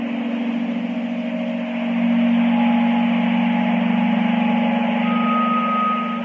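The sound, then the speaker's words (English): A tinnitus-masking relaxation sound called Blossom, one of 14 sound options on Widex hearing aids, played without Bluetooth: a steady, even wash of soft noise over a sustained low droning tone, with faint higher tones gliding in and out. No one speaks. “Let's take a listen to one of the most effective sound relax sounds called Blossom.”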